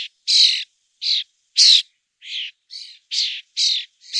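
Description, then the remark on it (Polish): A common starling gives its typical chatter, a run of about nine harsh, scratchy notes, evenly spaced and fairly loud, with no other sounds around them. “O, jest głos szpaka.”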